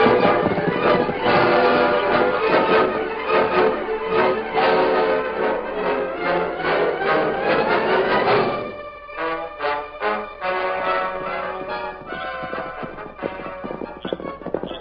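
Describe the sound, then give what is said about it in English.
Horse hooves clip-clop in a steady rhythm over a dense, ringing tonal backdrop, the hoofbeats thinning into sparser, more scattered taps in the second half. “Silver, hold up, fella. Steady, boy. That's it, big fella. That horse answered you.”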